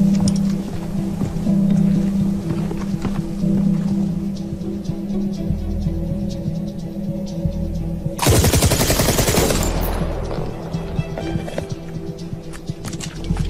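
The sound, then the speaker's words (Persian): A loud burst of rapid gunshots fires for about two seconds as a gun is test-fired after its charging handle is pulled, cracking in quick succession over a steady low engine-like hum that continues before and after. “گلنگدان اینطوری کشیده میشه و گلوله ها درگیر و جداگانه شلیک میشن، فقط با یک چرخش.”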